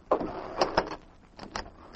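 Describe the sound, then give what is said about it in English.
A front door opens: a sharp latch click, a short scraping rattle and a few more quick clicks and knocks of the handle and frame, with no voices. “He walked to the door and opened it.”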